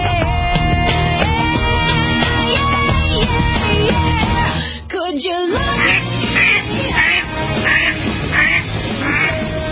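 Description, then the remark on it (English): Loud, busy honking quacks from several ducks overlap continuously, with a brief dip midway before repeated nasal calls resume in a steady, clamorous chorus. “That's not geese. I'm going to say that's ducks.”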